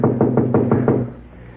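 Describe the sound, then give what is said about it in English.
A quick, evenly spaced series of about six solid knocks on the door of a house, fairly loud, with no voices; the knocking stops abruptly and a short quiet follows. “Now we'll play a little knock-knock.”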